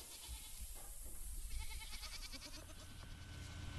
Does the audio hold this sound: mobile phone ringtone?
no